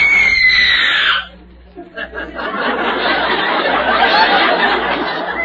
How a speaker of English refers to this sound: Miss …, will you scream for George, please?